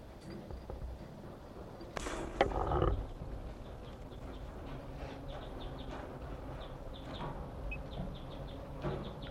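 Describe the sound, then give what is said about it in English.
Bird number 167 gives an alarm call: short, sharp, high chips repeated at irregular intervals, fairly faint against a steady outdoor background, with a brief louder rustling burst near the start. “was 167 giving an alarm call.”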